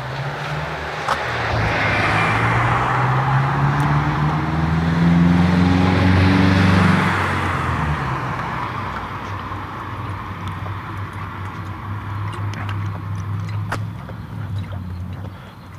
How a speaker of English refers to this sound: Sticks an outboard motor in the bucket, blade down, and cranks it up.